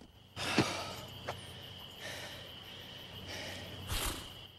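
A white horse behind a fence beside a dark, empty road snorts and blows through its nostrils in a few breathy bursts, with a steady faint hum in the background and no one talking.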